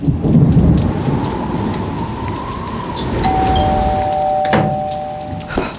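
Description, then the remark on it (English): A windy rainstorm roars steadily, heavy rain hissing over a deep rumble while a thin whistling tone drifts through it, and two sharp knocks sound near the end. No one speaks. “Shoo-wee, is it ever windy out there? And wet.”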